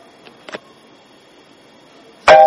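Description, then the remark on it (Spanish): A few faint clicks, then a loud phone notification chime for an incoming WhatsApp group message rings out abruptly near the end, bright and tonal. “Es un grupo de WhatsApp que me entró y escuchan acá.”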